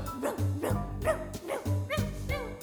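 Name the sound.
puppy barking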